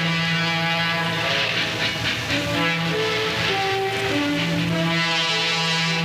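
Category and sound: vehicle, train running on rails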